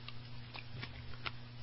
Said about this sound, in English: Well, it sounds like you may be... Well, I'm not sure. You're munching on something, but we are... We're trying getting in. We are eating strawberries live in the studio today. It's strawberry festival time.